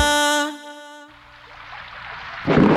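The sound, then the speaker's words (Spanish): A sustained musical tone fades out, giving way to a steady hiss of falling rain that swells into a heavier, louder downpour at the end. No voices. “Afuera llueve, pero acá suenan los éxitos y la mejor compañía.”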